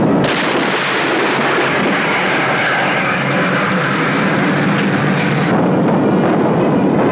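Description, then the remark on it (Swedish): Anti-aircraft fire hits an Allied plane, which crashes in a sea of flames; the sounds blend into a loud, unbroken roar of rumbling, crackling noise that barely changes for several seconds, with no voices. “Ett allierat plan träffas här av luftvärnseld och krossas i ett hav av flammor.”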